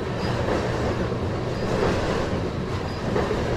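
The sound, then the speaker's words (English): Coal freight train cars, pulled by two locomotives, roll steadily past, a continuous loud rumble and rattle of wheels on rails with faint high squeals now and then, no voices. “What kind of cars are these? Coal. They might be empty.”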